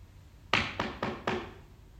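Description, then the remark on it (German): Four firm knocks on a door in a steady, evenly spaced rhythm, each with a short resonant ring, heard alone against quiet background hiss. “Hörst du ihn klopfen?”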